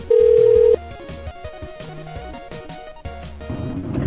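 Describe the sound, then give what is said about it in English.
A loud electronic ringback tone sounds once near the start of an outgoing phone call to a cell phone number, followed by quieter tonal line sounds and faint background murmur. No one speaks. “Anthony has a cell phone number also. We're going to try that one.”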